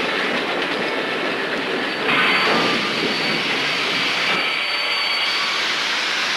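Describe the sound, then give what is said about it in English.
A passenger train rumbles steadily as it slowly rolls to a stop, its broad mechanical roar and faint metallic squeals of wheels or brakes filling the air, with no voices present. “The train slowly rolls to a stop.”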